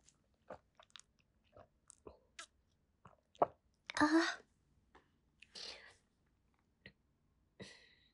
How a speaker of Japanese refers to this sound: さっきごくごく飲んでたんだけど、今ちょびちょびしか飲めなくなってる。でもちょびちょびだけど、今意外と受け付けた。胃が。